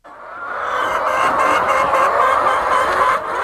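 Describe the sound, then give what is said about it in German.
A dense, constant din of thousands of chickens clucking and squawking together as they peck feed from large troughs in a huge poultry barn on a farm near Accra, Ghana, at steady volume, with no single bird standing out and no one speaking. “Geflügelfarmer Augustin Amankwa steht mitten in einem riesigen Stall. Tausende Hühner picken Futter aus großen Trögen.”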